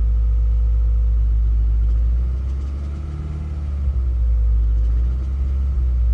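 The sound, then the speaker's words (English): A Subaru car engine runs at idle, a steady low rumble with a faint, regular knocking tapping through it. No one speaks. “I bought this Subaru like what Zach has. And I was wondering if you could tell me maybe what this sound is”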